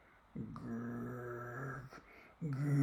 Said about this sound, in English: But there was a sudden growl. Yes, growl, I am not kidding you.